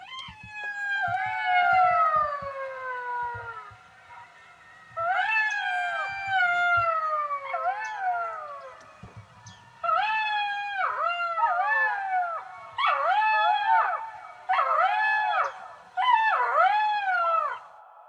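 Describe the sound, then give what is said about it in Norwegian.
A wild canine animal resembling a small wolf or fox howls at sundown in Lakselv in a series of long, wavering calls, starting with drawn-out falling wails and breaking into shorter, rising-and-falling yips, clear with no voices. “Og da solen gikk ned, begynte dyret å ule.”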